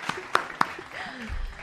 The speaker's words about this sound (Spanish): Se aplaude.